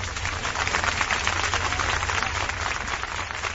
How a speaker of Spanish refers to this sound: Estos fueron los aplausos que se oyeron ayer en Sevilla en la despedida masiva de la duquesa de Alba.